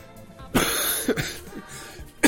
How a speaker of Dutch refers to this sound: Wacht even hoor. Even hoesten hier.